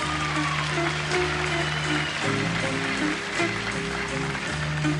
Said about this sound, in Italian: Give the band another big round of applause, ladies and gentlemen, being so together.